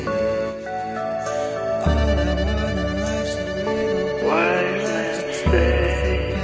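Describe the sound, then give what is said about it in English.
A dense electronic song plays loudly throughout, with small NASA-style beeps woven into the bright synth tones over a steady bass pulse and a swelling chord shift late in the track. “That little beep, the NASA thing that you hear.”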